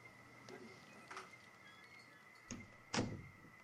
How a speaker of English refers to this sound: Go close your office door. Shh, shh, shh, shh, shh. Don't argue with me. Close the door.